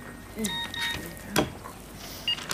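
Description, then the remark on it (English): A phone's alert for an incoming text message sounds as a short run of bright, high electronic beeps in quick succession, fairly quiet, followed by a sharp click and faint background noise. “Oh, I've just got another naughty text from Brett.”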